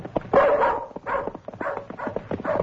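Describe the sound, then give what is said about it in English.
A dog named Bullet barks repeatedly in quick, eager bursts, fairly loud, with some whiny yipping mixed in between the barks, as it is sent off to trace a missing man. “What makes you think that dog of yours can trace Matt Fenn?”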